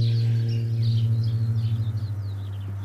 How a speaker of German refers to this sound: Es brummt schon wieder. Ich werde versuchen, das rauszufiltern, damit ihr das nicht hört. Da fliegt irgendwas in der Luft und das kriege ich hier. Oh, über mir ein Flugzeug.